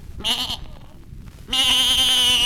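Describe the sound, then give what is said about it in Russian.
A young ram bleats twice: a short wavering bleat, a brief pause, then a longer, louder, quavering cry, with no talking. “Ну-ка, старуха, расстели баранчику на полу рогожку.”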